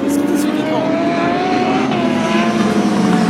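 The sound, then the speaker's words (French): Race car engines roar steadily on the track at a bend, a loud, continuous, buzzing drone whose pitch climbs slowly as the cars run past, with several engine tones layered together. “T'arrives à reconnaître les moteurs des japonaises, des BM, tout ça, ou il y a un son différent”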